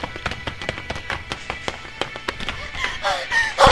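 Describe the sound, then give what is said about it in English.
Rapid, irregular sharp gunshots as military forces fire on protesters, a dozen or more in quick succession, over a constant rumbling din, with strained voices rising near the end. “Gunshots are everywhere.”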